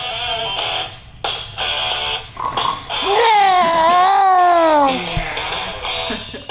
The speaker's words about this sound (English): perks up and lets out a cheer.